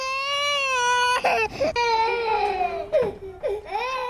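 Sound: babies crying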